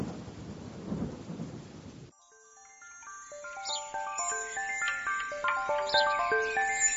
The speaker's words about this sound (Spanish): Se está yendo la tormenta. ¡Ah! Menos mal.